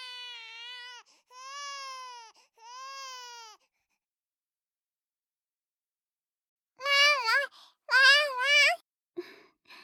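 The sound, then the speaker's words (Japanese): A newborn baby cries in three drawn-out wails, falls silent for several seconds, then cries out again in louder, more strained bursts, alone without talk. “いい子じゃ、いい子じゃ。わらわのかわいい赤子じゃ。”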